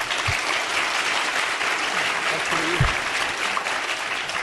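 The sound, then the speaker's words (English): Steady audience applause voting that the exoplanet raining glass is the fiction, a dense, even wash of many hands clapping for several seconds at a fairly loud level, with no pauses and faint low thumps underneath. “If you think that the exoplanet raining glass is the fiction, applaud.”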